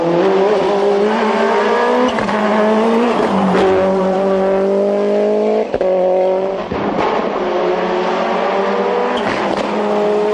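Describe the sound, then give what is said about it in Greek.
The engine of a Toyota Celica sports car roars loudly and steadily, its pitch climbing and dropping as it revs through gear changes at racing speed, continuous with no voices. “Η Toyota Celica είναι ένα σπόρο αυτοκίνητο που κατασκευάζονταν από την Ιαπωνική αυτομηχανία Toyota από το Δεκέμβριο του 1970 έως και την 21η Απριλίου του 2006.”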